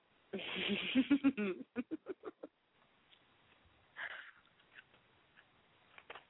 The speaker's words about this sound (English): I guess I hear myself chewing. You are chewing a lot. I noticed that, but I kind of tuned it out a while ago.